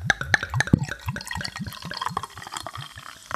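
Beer glugs and splashes steadily into a glass, with a rapid rhythmic gurgle of pouring that gradually softens into fizzing and bubbling as the glass fills.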